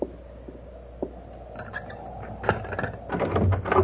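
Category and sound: household object, door being opened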